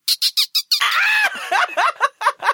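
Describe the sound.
A person imitates a dolphin with a run of shrill, squeaky chirps: five quick high bursts, then a longer warbling squeal and several more rapid clicky squeaks, loud and with no talking.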